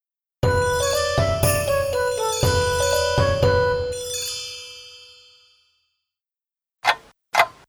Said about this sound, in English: Tick tock, it's 8 o'clock, another lovely day.